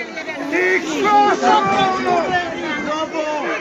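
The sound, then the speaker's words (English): Several overlapping voices shout and yell at once in a loud, continuous clamor, with raised pitches and no pauses: a chaotic crowd scene immediately after Fico was shot, as police tackled the suspect and security personnel carried Fico to his limo. “And also, you can hear people here yelling, a chaotic scene as police tackled the suspect and Fico is being carried to his limo by security personnel.”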